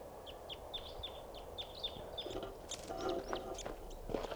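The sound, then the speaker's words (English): A wild crossbill chitters in flight: a rapid series of short, high chip notes, followed by a busier, overlapping burst of calls, all fairly quiet over a soft low rumble. “Bird chittering there in flight.”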